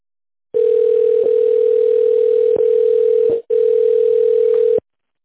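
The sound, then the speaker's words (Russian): A steady, single-pitched telephone ringback tone drones for about four seconds, broken once by a brief gap, as a call to the company Trest Volgoselstroy waits to connect to the secretary. No one speaks. “Наберите внутренний номер абонента в тоновом режиме или дождитесь соединения с секретарем.”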